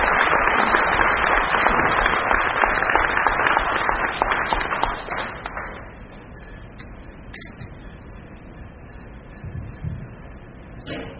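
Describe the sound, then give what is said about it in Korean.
A crowd applauds to welcome mountaineer Eom Hong-gil at a lecture hosted by a Korean-American mountaineering club in New York on August 14, 2009. Dense, steady clapping lasts about five seconds, then thins out and fades into scattered claps and a quiet murmur. “우리 큰 박수로 환영해 주시기 바랍니다.”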